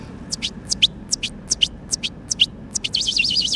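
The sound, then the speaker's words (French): A man looks at a tree and whistles an imitation of a bird call to communicate with birds he hears there: a steady series of short, high chirping notes that ends in a quick warbling trill, clear, with no talking. “L'un d'eux sifflote étrangement en regardant un arbre”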